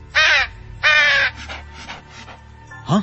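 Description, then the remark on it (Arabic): A crow caws twice in loud, harsh bursts, followed by softer rustling and a final short call, with a low background hum underneath. “هذا كلب ولا غراب؟”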